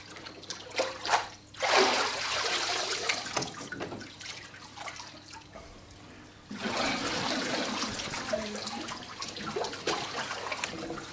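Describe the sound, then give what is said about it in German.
Water splashes and sloshes in broad noisy bursts, with a loud surge near the start and another sustained wash later, as a person is immersed in water and lifted out during a baptism on an alpine pasture. “Das sind halt die Wege Gottes, obwohl es am Bodensee viel mehr Wasser hat, muss man dann auf die Alp kommen, um sich taufen zu lassen.”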